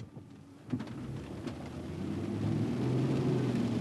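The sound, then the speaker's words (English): A car drives through stormy weather in a neighborhood devastated by Hurricane Katrina, nearly a year after the hurricane hit, its low engine rumble building steadily under a wash of rain hiss, with a couple of brief thuds early on. No one speaks. “It's a stormy day nearly 1 year after Hurricane Katrina hit, and the film is nearing completion. Blanchard is driving in his mother's old neighborhood.”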